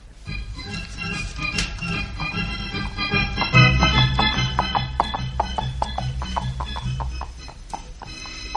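Horse hooves clip-clop in a steady, moderately loud rhythm that grows more distinct in the second half, over a sustained musical backdrop with no one talking.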